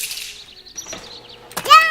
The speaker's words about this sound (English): The door opens.